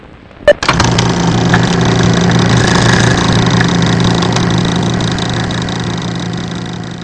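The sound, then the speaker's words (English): An engine catches with a sharp start after a half-second of near quiet, then settles into a steady, loud, rumbling idle that continues without pause. No one speaks. “You don't work on equipment when the engine's running.”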